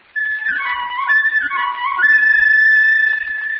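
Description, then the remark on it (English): A whistle blows in one long continuous blast, its bright layered tones wavering and shifting in pitch before settling into a steady, loud note that holds to the end. No one speaks. “You hear that? Now, the whistle has a blow.”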